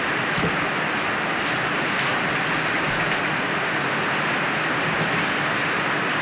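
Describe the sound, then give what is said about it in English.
Heavy rain drums steadily on a tin cover, a dense, loud, unbroken roar of pattering across the whole clip, with no voices. “Well, it rains on this tin, it makes a racket. See, this cover is tin.”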